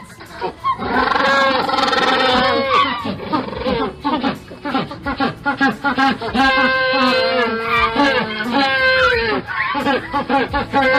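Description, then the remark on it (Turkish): A dense chorus of penguins braying and squawking their mating calls to find their mates, loud harsh honking cries with rising and falling pitch overlapping continuously, with no pause throughout. “İnsan kulağını delercesine rahatsız eden bu çığlıklar aslında aşk çığlıklarıdır.”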